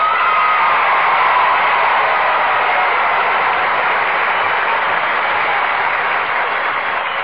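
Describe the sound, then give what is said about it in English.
An audience at the show Let's Pretend, presented by Cream of Wheat, claps in a steady, dense round of applause that holds strong for about seven seconds, a broad hiss of many hands with no talking over it. “Well, now, that's a mighty fine round of applause.”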